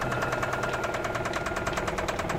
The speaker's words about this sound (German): Hör doch. Das Klopfen, wenn ich Gas gebe. Das Pleuel, was? Ja. Naja, es klingt so.